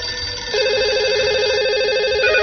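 A telephone line rings during an attempt to bring a caller on the line: a steady, warbling electronic ring tone starts a moment in and holds continuously to the end, fairly loud, with no one speaking; the connection fails.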